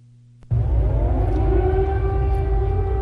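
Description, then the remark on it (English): An air raid siren in Kyiv, Ukraine, sounding as the capital comes under heavy bombardment from Russian airstrikes, starts abruptly after a brief low hum and holds a loud, steady wail over a deep rumbling background, with no voices present. “Air raid sirens sounded as the capital came under heavy bombardment from Russian airstrikes.”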